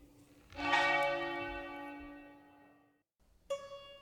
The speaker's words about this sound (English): Thank you so much, Beppe, and it must be a delight to have church bells out your window.